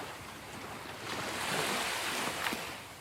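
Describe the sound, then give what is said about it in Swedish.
Ocean waves wash onto the shore in a steady, hissing roar that swells louder midway, then eases back, with no voices. “Hör du havets brus? Ja, men det gör jag faktiskt.”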